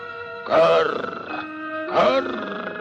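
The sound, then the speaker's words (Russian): Two gruff, raspy croaks of a raven sitting on a branch in a frosty forest, like an old man grunting, each about half a second long and a second and a half apart, loud over a steady tonal hum of music. “Это ворон мудрёно на ветке сидячи раскряхтелся, что дед досужий.”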